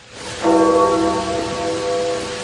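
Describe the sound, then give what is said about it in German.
A single deep toll of the death-knell church bell over St. Peter's Square at night rings out and hangs in the air, its resonant hum slowly fading against a steady outdoor hiss, like rain or crowd ambience. “Über dem nächtlichen Petersplatz läutet die Totenglocke.”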